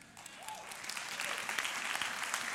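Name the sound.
audience clapping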